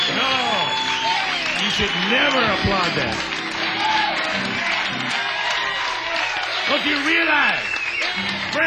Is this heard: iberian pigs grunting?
no